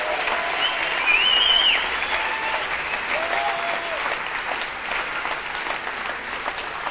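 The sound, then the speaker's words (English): An audience at a worship service claps for Jesus in a dense, steady burst of applause that holds fairly loud throughout, with a few faint whoops and voices rising over the clapping. “Give Jesus a clap just for the hang of it.”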